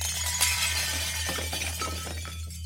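A loud crash of china, cutlery and glass pulled to the floor as a white linen tablecloth is yanked off a table, breaking into a clattering, tinkling cascade of shards and rattling pieces that keeps going for a couple of seconds over a low steady hum.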